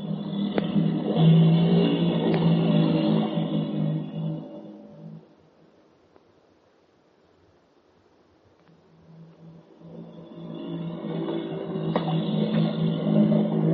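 A motorboat engine drones loudly and steadily, then fades almost to silence for a few seconds before its rumbling roar swells back up to full strength. No one speaks.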